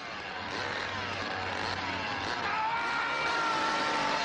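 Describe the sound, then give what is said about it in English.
A chainsaw engine from the horror film The Texas Chainsaw Massacre roars continuously, a harsh, buzzing motor drone that holds steady and swells slightly louder toward the end, with no voices. “In 40 years, that's right, 40 years, the Texas Chainsaw Massacre movie has made $30 million on its original investment of $300,000.”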